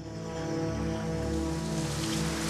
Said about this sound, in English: It's dark and raining.